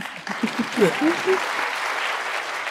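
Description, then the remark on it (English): An audience at a discussion of a book on protest and the civil rights movement breaks into steady applause, a dense wash of clapping that holds at an even level throughout, with a brief voice rising over it near the start. “Yeah, it's okay to clap.”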